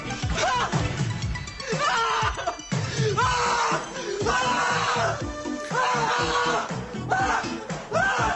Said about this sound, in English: The most memorable scene is when one student freaks out and starts shouting out of the blue as it goes cuckoo from being overloaded with homework.